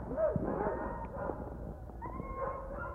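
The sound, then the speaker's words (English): Several sled dogs, among them Henry, Zero and Jasper, whimper and yip excitedly while being put into their team positions, overlapping high-pitched whines and short yelps filling the whole stretch in a restless, continuous chorus with no clear pauses. “You're gonna get a lesson in being a lead dog today, pig.”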